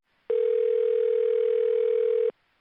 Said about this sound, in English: just about that time, the phone rings.